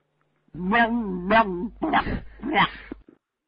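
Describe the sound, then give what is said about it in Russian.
A dog gives four loud barks in quick succession, the first two drawn out and whiny, the last two harsher and rougher, then silence. “Загавкала, что ли, а? Собака-терра.”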